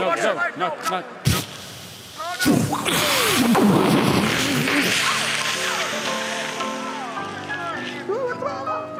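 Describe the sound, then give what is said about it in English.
Voices are cut off by a sudden loud explosion as a cigar is lit, followed by several seconds of rumbling, roaring noise with agitated voices mixed in before it slowly fades. “The concussion knocked Sarah Saran to the floor and gave me time to look for the distinguishing tattoo”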